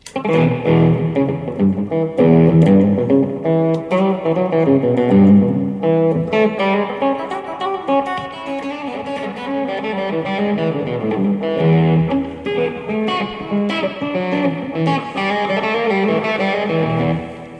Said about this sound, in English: And then some light overdrive distortion.